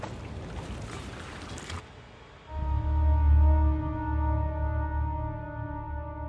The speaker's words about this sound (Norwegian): Natten kom, og de kunne legge seg mens båten vugga lett i vannet.